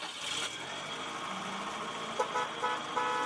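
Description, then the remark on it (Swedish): Steady hum of busy street traffic on Polish streets in 1995, with Polonez and Fiat 125p cars, and several short car horn toots breaking through in the second half, loud over the rumble of passing vehicles. “På de polska gatorna rullar Polones eller Fiat 125P-bilar.”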